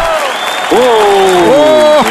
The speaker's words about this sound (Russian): Все, клаустрофобушки, спасибо, отаплодировали.